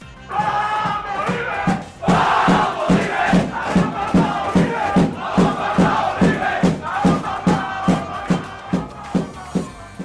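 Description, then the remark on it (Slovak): Young footballers of the Jozef Gregor Tajovský grammar school shout a victory chant in unison after a match, loud and rhythmic, with sharp repeated beats, likely claps or stomps, marking a steady pulse roughly twice per second. “Futbalisti gymnázia Jozefa Gregora Tajovského si po zápase zakričali víťazný pokrik, ktorý Marek Hamšík z reprezentácie dobre pozná.”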